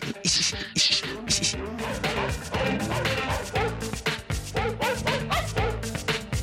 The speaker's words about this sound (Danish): Forestillingen om at se det her live, hvor der er en hund, der står og bjeffer den der melodi.